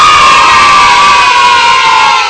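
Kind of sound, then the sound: crowd, children shouting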